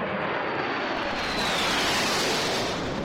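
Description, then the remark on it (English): A loud, steady roar of four Marine Corps jets flying overhead in tribute near the end of a ceremony. A dense rushing rumble fills the whole clip, with a faint high whine sliding down as they pass. No voices. “Near the end of the ceremony, four Marine Corps jets flew over in tribute.”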